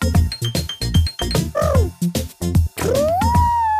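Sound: person imitating an elephant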